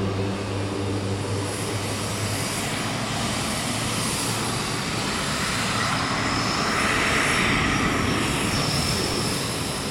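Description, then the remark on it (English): Loud, steady roar of airplane engines idling on a runway at an airbase outside Amman, Jordan, the plane being the last of a convoy of aid flights to Gaza; a low droning hum under broad rushing noise that holds constant for the whole stretch, with no one speaking. “The plane is finally pulled forward. We're now on the runway with the last of the convoy of flights that's flying aid into Gaza today.”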